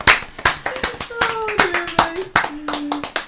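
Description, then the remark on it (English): A lively round of applause from a small group, with sharp, rapid hand claps throughout and a few brief whoops or cheering voices rising over the clapping. “Round of applause, everybody!”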